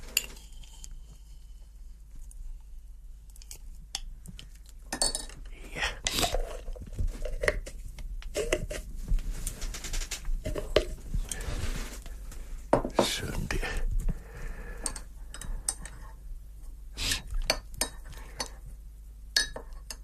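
Hot tea being poured into a cup, then stirred, with a scatter of sharp spoon clinks against china and soft rustling in between, quiet and irregular over about twenty seconds.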